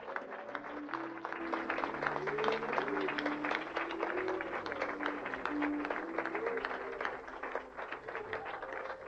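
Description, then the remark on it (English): At a church wedding, an audience claps steadily for about nine seconds for a couple just pronounced husband and wife. It is a dense, even wash of many hands, with a low sustained tone and a few scattered voices running underneath. “Could we give Jesus a hand clap for them?”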